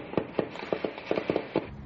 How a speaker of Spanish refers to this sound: De noche se escuchan disparos.